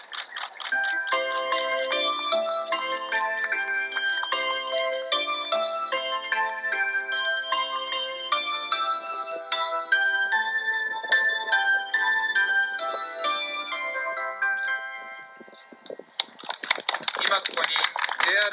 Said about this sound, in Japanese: 東海道線で新しい発車メロディーが誕生いたしました。